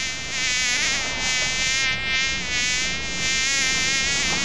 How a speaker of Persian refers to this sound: نام من مگس است. من بچه گو مگس نواسه خر مگس هستم.